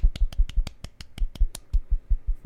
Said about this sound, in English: Golf clap? Do we clap? Yeah.